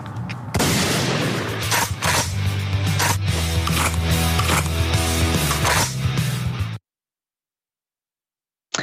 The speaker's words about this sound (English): Obviously the gunshot noise at the very end is ruffling some feathers for obvious reasons.